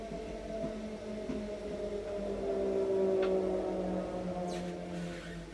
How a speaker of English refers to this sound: But 10 minutes later, the train stops.